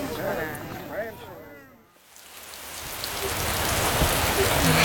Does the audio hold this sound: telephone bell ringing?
no